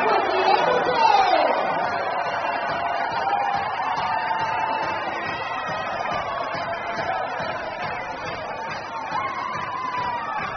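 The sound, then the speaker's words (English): A large stadium crowd in Corpus Christi roars and cheers loudly and steadily for about ten seconds after a Hooks grand slam home run by Quincy Hamilton in an evening baseball game, with a shrill whoop rising out of the din early on before the noise settles into a sustained roar. “They got a huge crowd here this evening in Corpus Christi, and they are absolutely delighted.”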